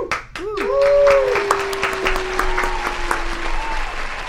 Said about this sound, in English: Pause. Applause. Oh, applause.